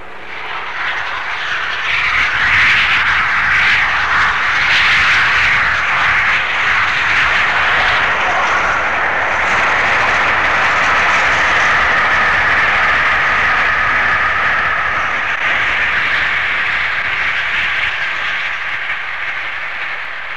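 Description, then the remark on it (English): The Flying Scotsman steam locomotive thunders by near St. Neots at 92 miles an hour on a high-speed run between King's Cross and York, its exhaust beats blurring into a loud, steady rushing roar that holds for about twenty seconds with no voices over it. “a fairly high speed run was made between King's Cross and York, and the sound you hear now is Flying Scotsman near St. Neots running at 92 miles an hour.”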